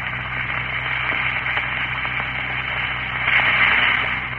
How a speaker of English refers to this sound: Drop two tablets into a glass of water like this. Listen for a moment to that famous fizz.